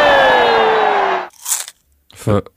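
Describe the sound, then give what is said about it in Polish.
A single crisp, crunchy bite of a falafel cuts in right after a long, bright tonal swoosh fades, followed moments later by a brief voiced snippet. “Falafel.”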